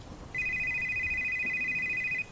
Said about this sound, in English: We had someone pick up an order around 10:15, but we had nothing else until 10:50, when the phone started ringing.